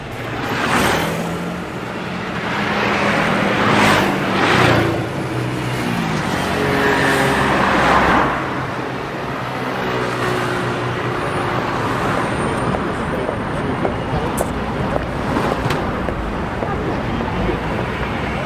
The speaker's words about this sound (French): Boulevard Saint-Martin, 14h. Il pleut.